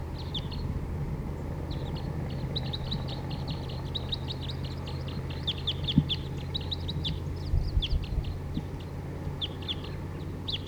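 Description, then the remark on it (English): Many small wild birds call in a busy chorus of high, quick chirps and tweets, repeated irregularly over a steady low hum, with no one speaking. “Start recording wild bird.”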